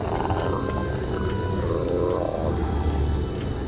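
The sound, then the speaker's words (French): A deep, rumbling animal growl from behind the locked door of a father's bedroom rolls on without pause for nearly four seconds, rough and throaty, holding a fairly steady loudness with no voices alongside it. “Tout à coup, j'entendis un grognement sourd qui enflait au fur et à mesure.”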